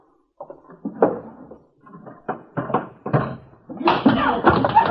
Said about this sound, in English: Hey, what's that? He's beating her.